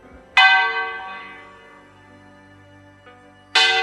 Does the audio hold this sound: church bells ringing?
yes